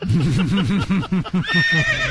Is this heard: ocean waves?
no